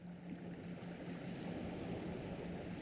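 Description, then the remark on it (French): A steady, soft wash of ocean waves rolls on without pause, a broad hiss of surf with a faint low hum beneath it and no voices. “Aujourd'hui, vous allez pouvoir vous endormir tranquillement, bercé par le bruit des vagues.”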